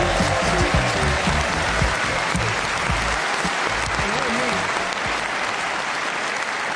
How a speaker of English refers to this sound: One of you was clapping out of time. You're a typical Geordie crowd, determined to make the best of it, aren't you?